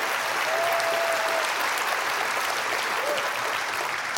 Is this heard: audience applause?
yes